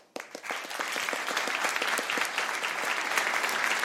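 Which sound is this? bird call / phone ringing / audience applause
audience applause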